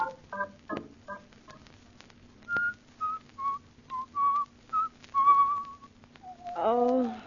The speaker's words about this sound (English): Oh, stop whistling that turkey in the straw.